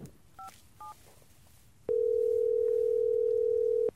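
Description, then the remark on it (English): Two quick keypad beeps, then a loud, steady telephone tone hums at one low-middle pitch for about two seconds before cutting off, as a phone call is dialed to reach an expert. No one speaks. “Let me see if I have a signal, and maybe I can dial in an expert.”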